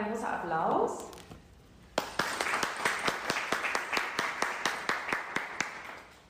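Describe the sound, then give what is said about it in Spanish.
A voice speaks briefly, then after a short pause a crowd breaks into applause to thank the speaker of the morning session: steady, fairly loud clapping with a rhythmic, almost synchronized pulse that continues to the end. “Bueno, le damos las gracias de corazón y un gran aplauso.”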